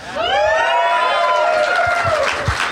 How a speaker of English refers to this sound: You don't have to cheer for the game names, but I like it.